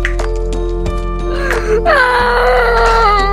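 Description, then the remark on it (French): A voice fakes loud, exaggerated crying, a drawn-out wail with wavering, sliding pitch that swells in the second half, with no other talk. “Ça fait trop bien avec les faux pleurs.”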